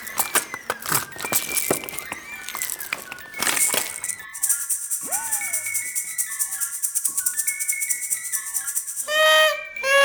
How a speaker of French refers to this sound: Je vais faire monter mes castagnettes. Mets-moi ça, mes castagnettes.